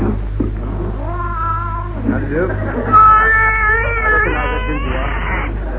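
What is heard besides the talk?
cats meowing and caterwauling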